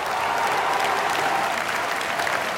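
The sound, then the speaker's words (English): A large crowd at a party conference staged like an Emmanuel Macron campaign rally applauds steadily, dense clapping blending into a continuous roar with faint cheering and shouts of "Macron président" mixed in, loud and sustained throughout without pause. “There were all the flags that we used to see during the rallies in 2017 when he was elected, the pink and the yellow and the blue, the European Union flag, and people cheering and shouting Macron président, you know, Macron for president.”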